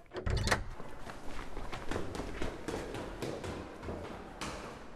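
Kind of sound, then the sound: household object, front door being opened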